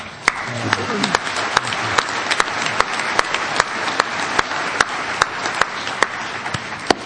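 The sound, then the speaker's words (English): An audience applauds steadily for about seven seconds, a dense wash of many hands clapping with a few sharper, louder claps popping out irregularly above the rest. “I clap for you, because you've given it to me.”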